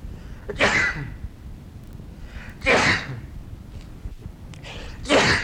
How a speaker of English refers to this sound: I'm going to sneeze.